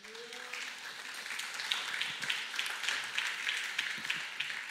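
A crowd applauds a pastor steadily, a dense wash of many hands clapping at a moderate level, with a brief low voice or tone fading at the start.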